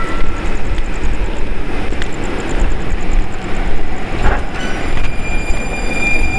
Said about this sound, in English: Here comes another train at the McGowan stop as we're heading up towards McGowan Street. Not too many people out tonight, this Sunday night, but the train is full of people.